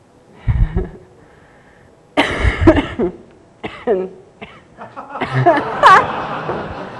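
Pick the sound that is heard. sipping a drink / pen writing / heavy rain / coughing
coughing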